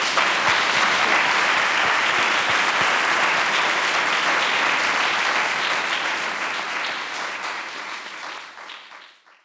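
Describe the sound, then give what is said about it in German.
An audience of students, teachers and professors in a large concert hall applauds at the end of a live interview, in a dense, steady wash of clapping that holds strong for several seconds, then thins and fades out near the end. No one speaks over it. “Ja, dann ein Applaus.”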